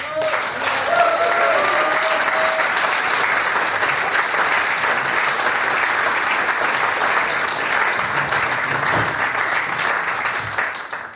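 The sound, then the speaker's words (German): Sustained audience applause for the guest band, a dense steady wash of clapping hands at high volume for over ten seconds, with faint voices or cheers mixed in early and a gradual taper at the end. “Das ist euer Applaus.”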